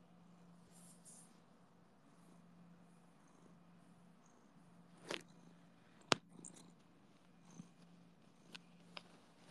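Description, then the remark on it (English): A cat purrs softly and steadily, the low rumble rising and falling with each breath, while a few sharp taps and scuffs break in near the end. “He's doing his cat things.”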